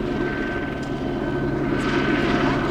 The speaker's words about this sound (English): The helicopter circles above, getting closer, then pulling away, then closer again, teasing the crowd.